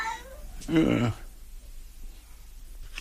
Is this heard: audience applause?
no